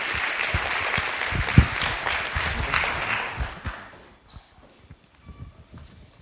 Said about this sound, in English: So first of all, give Bethany a warm round of applause, please.